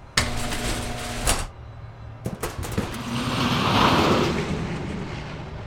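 Train doors slide shut with a couple of loud mechanical thuds and clatters over a low hum, followed by a swelling rush of rolling noise as the train moves off.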